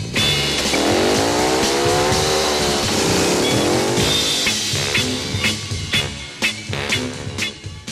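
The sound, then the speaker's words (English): A motorcycle engine revs loudly, its pitch climbing in repeated rising surges before it roars off, with sharp knocks and clatter following as the sound continues. “So would you girls mind stepping off my motorcycle?”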